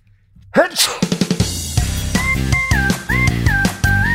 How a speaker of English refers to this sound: Sorry, I have to sneeze.